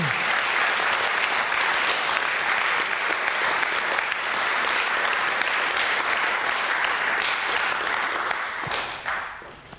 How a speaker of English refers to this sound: I'd just love us just to give us a clap for the Wycombe team. I just think they do an absolutely amazing job.